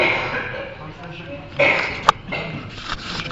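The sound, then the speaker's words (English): Amid a steady murmur of crowd noise, a couple of short, sharp coughs break out a moment apart from devotees with colds scattered through an audience. “So many devotees affected by cold and cough.”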